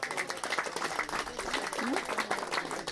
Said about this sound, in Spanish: De la Parotilla, un aplauso para la Parotilla.